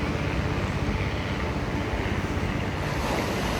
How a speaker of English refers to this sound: And maybe you need to hear this helicopter.